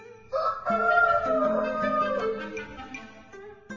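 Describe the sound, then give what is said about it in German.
A rooster in a village crows once at sunrise, a long drawn-out call that rises and then falls away, loud with no voices around it. “Während er noch staunte, ging am Horizont die Sonne auf, es krähte der Hahn im Dorf und der Spuk hatte ein Ende.”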